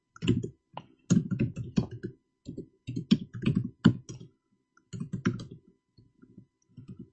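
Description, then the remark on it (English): Rapid, uneven bursts of typing on a computer keyboard, with clustered key clicks separated by short pauses and no talking. “This keyboard. What am I doing wrong?”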